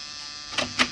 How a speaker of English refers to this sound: Try the buzzer, Muggerman.